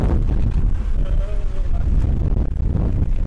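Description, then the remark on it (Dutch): Strong wind buffets the microphone, a constant loud low rumble and roar filling the whole stretch, with a faint brief tonal whine partway through. “Ondertussen is de wind ook nogal aanwezig.”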